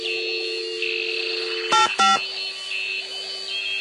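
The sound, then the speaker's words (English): Two quick touch-tone beeps as someone dials a telephone keypad to make a call, clear, sounding one after another over a steady electronic background tone. “Well, that's it. I'm going to call Paul about this.”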